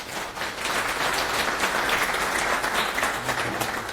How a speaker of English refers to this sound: Let's give another round of applause, everyone.